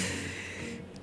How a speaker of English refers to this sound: we gasp in the studio right now.